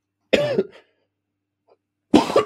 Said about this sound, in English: My fault. I'm smoking that loud. Pardon yourself. You might cough a little bit, but you smoking loud.